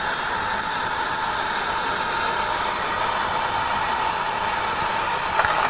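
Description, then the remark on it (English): A steady, loud roar of aircraft engines and rushing air during an automatic landing (autoland), then a brief jolt at the end as the wheels touch down on the runway. No one speaks. “The screen was only gray, but the video was actually running, and it counted down the altitude 50, 30, 20 feet above ground, and you could hear a touchdown before you could actually see the runway.”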